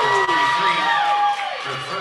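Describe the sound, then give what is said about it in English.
A Reese Rockets basketball crowd roars and cheers steadily after a putback layup by number 32, with high-pitched whoops and shouts rising above a loud, dense wall of voices that eases slightly toward the end. “Fires up this Reese Rocket crowd here.”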